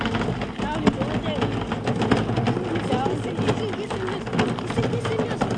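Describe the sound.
A wheelbarrow carrying a big container to fetch water from a tap rolls along steadily, giving a continuous rattling, grinding rumble with a heavy low end that lasts the whole time, while faint voices murmur underneath.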